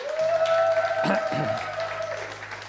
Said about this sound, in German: Einen ganz dicken Applaus für unsere Kigo-Band.